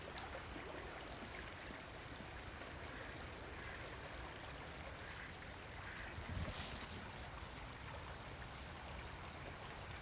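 river current flowing

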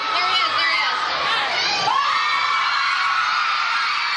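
concert crowd cheering

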